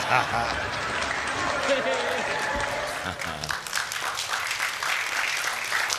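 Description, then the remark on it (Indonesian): An audience claps steadily for several seconds, a dense, fairly loud patter of many hands that holds throughout, with some voices mixed in underneath. “Ah, nggak usah tepukin, malu.”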